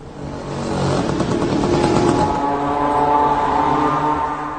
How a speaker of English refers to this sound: Ukrainians nicknamed these drones mopeds, although this is not actually a moped but an air-cooled four-cylinder engine. Let's look at how it sounds like.